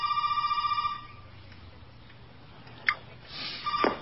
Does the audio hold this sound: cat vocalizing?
no